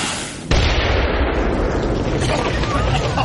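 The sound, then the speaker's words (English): A grenade placed by a door explodes, bursting in suddenly after a brief quiet moment, then a heavy, roaring rumble with crackling debris carries on loudly for several seconds. “Now, I'll place it by the door, and in a few moments, there'll be nothing but a doorway.”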